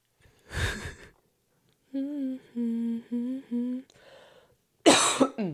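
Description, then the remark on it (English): Two sharp, harsh coughs bracket a few strained, voiced throat sounds in between, all close to the mic with no talking. “Got a bit of a cough because of, I think, allergies.”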